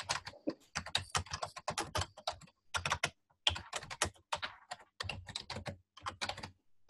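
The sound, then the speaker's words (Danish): Rapid typing on a computer keyboard as someone types a heading into a form, with bursts of clattering keystrokes separated by brief pauses over several seconds. No voices are heard. “Så vi har formen her, der kan jeg skrive min”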